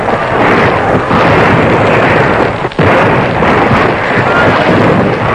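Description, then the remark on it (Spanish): Loud, relentless rifle gunfire, the shots packed so densely they merge into a rumbling roar, with one brief dip partway through and no voices. “Detrás, a 300 metros, se oían los gritos de los aliados, quienes, suponiendo que los disparos de fusilería indicaban que Carcine había cumplido su tarea, atacaban.”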